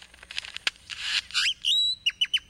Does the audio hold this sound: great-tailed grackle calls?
yes